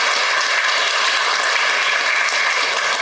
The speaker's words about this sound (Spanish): Pedimos de nueva cuenta un coloroso aplauso a todos los diplomantes que han sido reconocidos el día de hoy. Muchas felicidades.